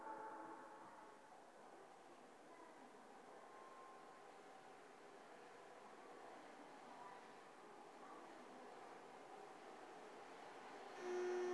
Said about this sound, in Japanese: 2番線に当駅止まりの電車が到着します。